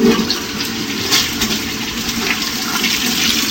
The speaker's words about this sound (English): And then she flushes the toilet.